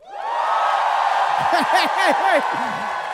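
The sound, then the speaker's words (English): A live audience cheers loudly and steadily for a few seconds, voting that the character Jim John was killed by the players, with several rising and falling whoops and shouts cutting through the broad roar. “Why would you cheer for that?”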